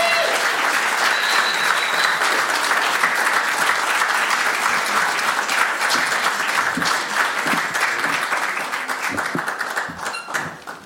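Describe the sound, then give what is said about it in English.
Sustained audience applause for a storyteller at a storytelling night, a dense, steady wash of many hands clapping at full volume for about ten seconds, thinning slightly at the very end. “Let's give Tamika another big round of applause.”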